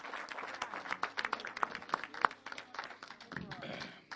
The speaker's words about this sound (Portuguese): Uma salva de palmas, louva ao Senhor. Aleluia.